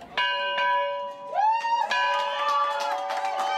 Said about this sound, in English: On the last day of school, ringing the historic bell seemed like the right thing to do.